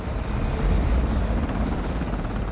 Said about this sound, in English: She thinks it's about 3 a.m. when the helicopter lands on a helipad in Galkayo.